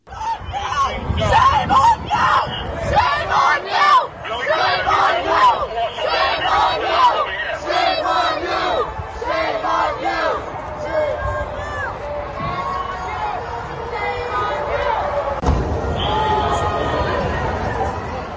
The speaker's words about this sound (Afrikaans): En is die klank daar van pro-Palestijnse betogers wat slagspreuke uitskree terwyl die polisie probeer om die skare onder beheer te bring.